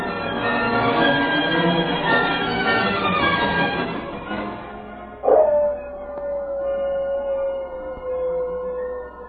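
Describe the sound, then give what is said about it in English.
A dog howls in long, wavering cries, several voices overlapping at first, then a single sustained howl trails off steadily. No talking, fairly loud. “Forget that dog and work on that rope.”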